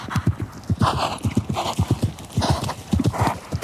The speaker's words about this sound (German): bitte einmal aus dem Stall galoppieren.